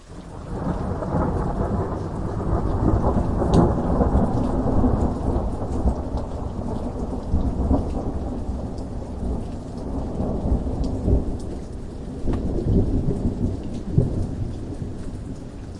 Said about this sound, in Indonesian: Tiba-tiba, langit gelap dan hujan deras mulai turun. Para penduduk kampung yang awalnya menonton perlombaan, kini berlarian menghindari hujan.